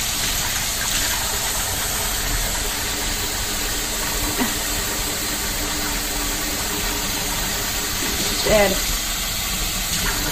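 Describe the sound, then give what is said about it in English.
A steady, even rush of running water from a tap fills the whole stretch as hands are washed with soap, with a couple of brief splashy bumps partway through as hands move under the stream. “Add a very teeny amount of water.”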